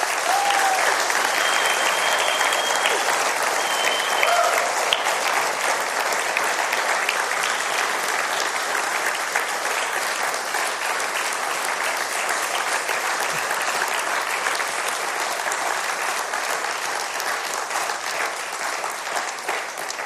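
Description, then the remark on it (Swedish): A sizable church audience gives sustained, dense applause for about twenty seconds to a man handing over his role in the audience. It stays steady and loud throughout, with a slight easing toward the end. “Så jag tycker jag kan vi ge honom också en rejäl applåd.”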